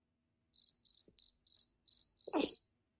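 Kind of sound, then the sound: insect, cricket chirping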